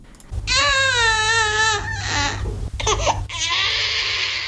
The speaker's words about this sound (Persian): گریه کودکی که 3 روز می شود به دنیا آمده است، اما معلول و سوی شکل.